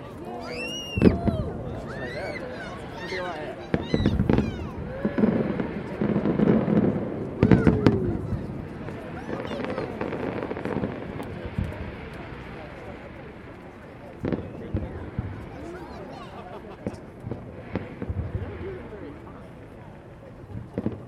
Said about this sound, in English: So, is that a screaming child firework? Yes. It's very realistic.